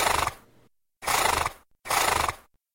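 A horse neighs three times in quick succession, each whinny a loud, shaky, quavering burst lasting about half a second, with brief silences between them.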